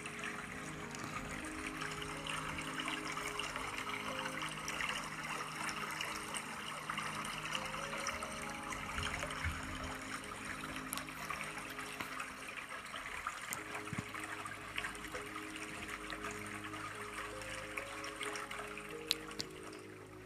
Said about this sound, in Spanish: Inhala y exhala y ve sintiendo cómo fluye el agua.